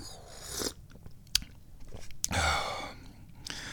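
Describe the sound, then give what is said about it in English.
A cat eats food in a bathroom, with irregular crunchy bites and chewing bursts, a few sharp clicks, and brief pauses between mouthfuls, at fairly low volume with no talking. “There goes the kitty running by. Running into the bathroom to get some yummy food.”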